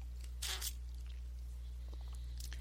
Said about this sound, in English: I had to pause and take a drink of water, so just bear with me for a minute.